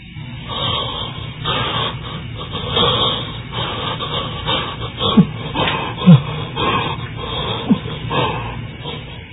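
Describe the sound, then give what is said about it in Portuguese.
Heavy, agonized breathing rasps on without pause, each labored breath a low, rough rush with grunting undertones, broken by a few sharper catching gasps. No one speaks. “Ausência de luz, o ruído da respiração agonizante e o pavoroso silêncio fazem Flávia recuar”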